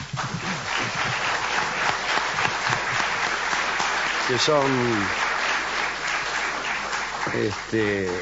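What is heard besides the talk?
audience applause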